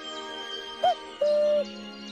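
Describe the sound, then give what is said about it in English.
A man imitates a cuckoo's call by blowing into his cupped hands: two hollow, hooting notes, a short first note, then a longer, steady second one, clear over a faint steady background hum. “mimics the call of a cuckoo by blowing into his cupped hands, and a cuckoo takes flight across a milky blue sky.”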